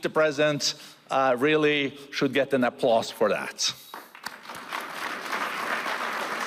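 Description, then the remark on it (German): At the World Economic Forum, a man speaks emphatically for a few seconds, praising Milei's economic reforms, then a crowd breaks into applause, a dense, steady wash of clapping that swells and carries on without pause to the end. “Das verdiene Applaus.”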